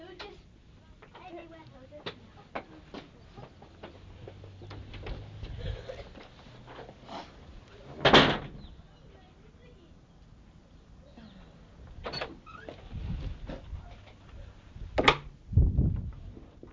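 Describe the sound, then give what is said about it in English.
A key rattles and clicks in a lock, then a door latch clunks open, with scattered knocks and handling sounds and a few sharper thuds toward the end. “Right, colonel, open the door, please.”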